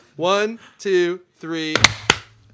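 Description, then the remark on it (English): Three voiced counts rise in steady rhythm, then several hands clap together in a sharp, loud burst, with a single straggling clap following a beat later. “So we're going to go 1, 2, 3, clap.”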